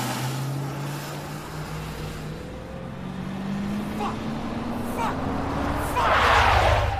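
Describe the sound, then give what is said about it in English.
A station wagon's engine accelerates as it tears away from a building, its low droning hum climbing steadily in pitch as it pulls away, with road noise throughout and a louder rushing burst near the end. “He gets in his station wagon and tears away from the building.”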